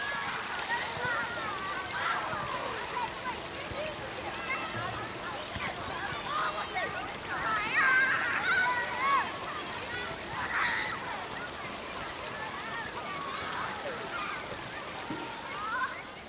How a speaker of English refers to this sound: You should have Rainworth Water down below you by now, with the school grounds on your right. And if the children are out playing, then the sounds of them and the running water are lovely together.